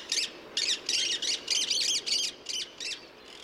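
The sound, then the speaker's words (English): Parrots squawking in a rapid run of about ten harsh, high-pitched calls, each short and raspy, spilling out in an uneven rhythm with brief gaps and no talking. “parrots can often seem like exotic ambassadors from the far-off jungles of Brazil or the wilds of Australia”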